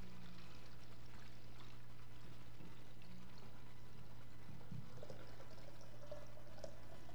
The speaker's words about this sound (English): And I've got one pitcher that's got water in it and one that doesn't. So let's just see. So they poured the water into the pitcher.